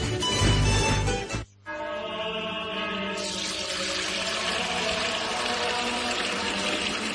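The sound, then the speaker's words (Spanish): Spring water pours steadily, a full, rushing splash that breaks off briefly near the start, then resumes as a continuous gurgling stream, as if filling a container. “Agua pura de manantial Fuente Umbría.”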